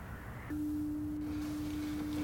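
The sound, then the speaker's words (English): A foghorn sounds one long, steady, low-pitched blast that starts half a second in and holds unbroken to the end, over a constant low rumble. No one speaks. “There is a foghorn.”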